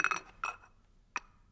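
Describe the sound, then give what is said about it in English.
Three cups are set down one after another as teaching props in a Mishnah lesson, each giving a bright, ringing clink. The first two come close together and the third follows after a short pause, with no talking. “for this we need the cups, actually. We'll do these cups again, there you go, thank you very much.”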